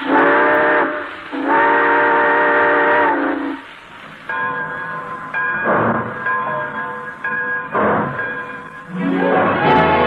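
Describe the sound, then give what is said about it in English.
A steam train whistle sounds in long, loud blasts, the first short and the next held for a couple of seconds, followed by more whistling as the train rumbles and pulls away, with no talking. “All aboard! Well, it looks as though we're ready to pull out.”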